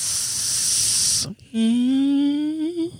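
A loud, steady high-pressure gas hiss comes from a kitchen where a fire is burning. It runs for over a second, cuts off abruptly, then gives way to a sustained, slowly rising shrill whine. No one speaks.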